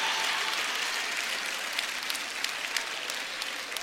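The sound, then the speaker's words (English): A thin, scattered smattering of applause from a church audience during a sermon, a few people clapping over a steady hiss of crowd noise, with occasional sharper individual claps standing out. No one speaks. “Oh, not so much applause anymore.”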